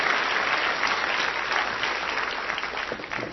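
Steady audience applause, a dense wash of many hands clapping at an even loudness for a few seconds, with no voices rising above it.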